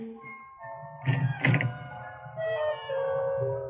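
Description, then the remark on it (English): A door swings open with a short, fairly loud clunk and rattle, set against a steady, sustained tonal hum that runs throughout; no one speaks. “This door. Where does it lead? Why not open it?”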